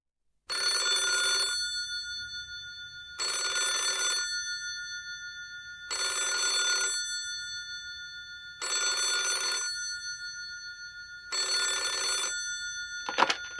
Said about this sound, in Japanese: 辻口家に一本の電話がかかってきました。